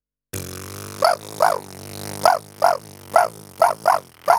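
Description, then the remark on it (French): A voice imitates a prairie dog call by buzzing the lips, giving about eight sharp, yappy "wa" chirps in an irregular rhythm over a continuous low droning buzz, fairly loud. “Le chien de prairie. Utilisez le son « wa » que vous projetez au travers du bourdonnement de vos lèvres.”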